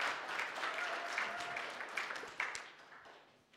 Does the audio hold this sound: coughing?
no